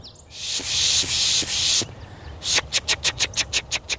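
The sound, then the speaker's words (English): A person pishes by a small pond and marsh in Portland on a foggy day: a long, breathy hissing pish, then a quick rhythmic run of about eight short, sharp hissing bursts, imitating the aggression calls of chickadees and other small birds to draw in birds such as a kinglet and chickadees. “We make this, we call it pishing. It's supposed to sound a little bit like chickadees and other small birds making their aggression noises that'll draw in other birds.”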